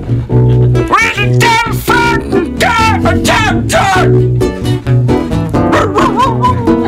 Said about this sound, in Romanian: Ia-uzi Beethoven. Beethoven. Ia-uzi Beethoven cum mai latră la femeia vagabondă.